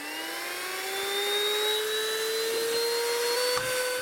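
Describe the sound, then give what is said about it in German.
A vacuum cleaner held in someone's hand runs steadily, growing heavy and seemingly no longer able to pick anything up. Its motor whine holds a strong tone that slowly climbs in pitch, with a brief bump near the end and no talking. “Oh, jetzt wird ja richtig schwer schon, dein Staubsauger.”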